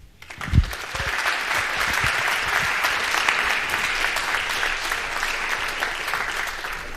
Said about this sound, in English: Please welcome them with a huge round of applause.